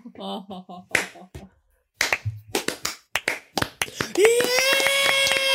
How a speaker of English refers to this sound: Absolute stunned silence until Spicy Pete's parents look at each other, and then look back, and then slowly stand up and start a slow clap.